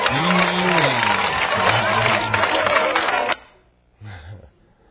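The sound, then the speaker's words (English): A crowd of villagers cheers loudly and excitedly for their clean-water well, voices rising and falling in whoops for about three seconds before cutting off, followed by a brief burst of one more voice. “They're cheering for the well.”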